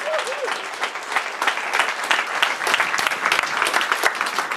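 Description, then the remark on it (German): Steady applause from an audience for the Open Gestures prototype, a dense wash of many hands clapping at a constant, fairly loud level for the whole stretch, with a brief whistle or cheer near the start. “Euer Applaus.”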